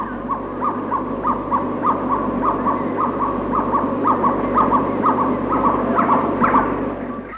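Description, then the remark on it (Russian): A gibbon calls in a steady series of loud, hooting notes, about two per second, rising slightly in intensity, over a continuous dense jungle background of buzzing and chatter. Recorded in the jungle of South Vietnam. “Это особая удача. Крик гиббона.”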